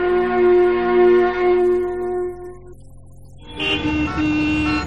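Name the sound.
car horns honking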